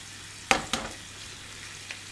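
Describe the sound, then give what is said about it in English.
Bacon sizzles steadily in a frying pan, a constant hiss of hot fat broken by a few sharp crackles and pops. No one speaks. “So, got my egg here, got my frying pan, can hear the bacon sizzling away.”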